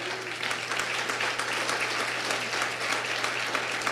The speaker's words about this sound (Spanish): ¿Cuántos le dan un fuerte aplauso al Señor?